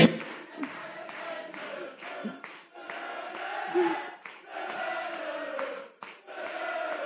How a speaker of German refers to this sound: Ja, jetzt hört mal auf zu klatschen, oder habt ihr ein anderes Programm irgendwie? Ey, auch hier vorne, du kannst auch gern die Hände auseinandernehmen.